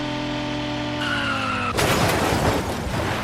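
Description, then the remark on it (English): A video-game car skids with a steady, whining tire screech and engine drone, then slams into something in a loud, crunching crash that rumbles on for over a second. No one speaks. “And I crashed.”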